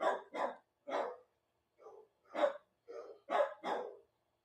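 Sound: dogs barking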